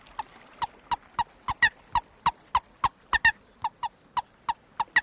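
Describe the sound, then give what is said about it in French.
A rubber-bellows moorhen call lure, tapped against the forearm so the bellows blows air that vibrates a reed inside a small metal piece, squeaks in a steady series of about eighteen short, sharp, reedy chirps, roughly three per second, fairly loud with quiet gaps between. No one speaks. “Là, vous le faites couiner en tapotant votre appô sur l'avant-bras.”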